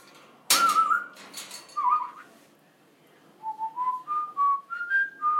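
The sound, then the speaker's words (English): A female pet bird whistles, starting with a sharp burst and a brief warble, then after a pause a series of short, clear notes climbing upward like a tune. “You brilliant little bird, eh?”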